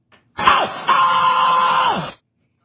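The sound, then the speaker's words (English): A recording of comedian Sam Kinison screaming: a loud, raspy short burst, then a long sustained shriek that drops in pitch at the end. Forceful, nearly two seconds, with no talking. “Sam Kinison screaming.”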